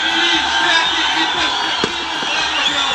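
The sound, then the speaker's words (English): A dense, steady roar of a large crowd celebrating outdoors at an all-night party in Pristina, Kosovo, after Kosovo declared independence from Serbia, with layered voices, whoops and cheering blending into a continuous loud wash, broken by a brief sharp bang. “Crowds gathered and partied in Pristina.”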